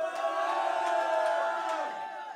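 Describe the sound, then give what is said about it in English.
A large concert crowd cheers and shouts, a dense steady roar of many voices with scattered whoops, loud and sustained before easing slightly at the end. “You are an awesome crowd.”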